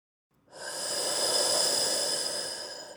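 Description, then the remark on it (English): A single long, heavy breath drawn through a scuba regulator by a diver on a blue dive in open ocean, a steady rushing hiss with a thin metallic whistle riding on top, lasting a couple of seconds before cutting off. “Breathing heavily into my scuba regulator, I started talking to myself on our first blue dive.”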